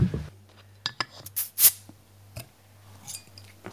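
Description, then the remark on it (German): A bottle of freshly brewed beer is opened to taste the finished product: a few sharp metallic clicks and clinks, then a short hissing pop, followed by scattered glassy taps over a low, steady background hum. “Möchtest du aufmachen?”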